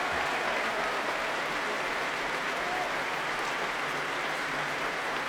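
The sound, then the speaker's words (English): A Proms concert crowd applauds steadily as the violin soloist returns to the stage after the Beethoven Violin Concerto. It is a dense wash of clapping with cheers mixed in, holding at an even, fairly loud level throughout without letting up. “Back on stage, just listen to the cheers.”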